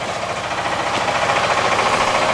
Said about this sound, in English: So we're inside this little shack and there's a small group of people and they're pouring bags of rice into this really old looking machine that has these crazy belts on it, and it's so loud in this small room, and they're milling rice.